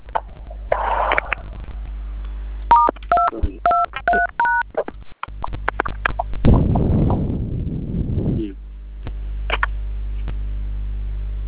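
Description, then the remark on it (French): A quick run of about six or seven clear touch-tone telephone keypad beeps, punching in the short code star 223 hash, followed by a few seconds of rough, rustling noise. “Lorsque vous composez le code étoile 223 dièse OK sur votre téléphone.”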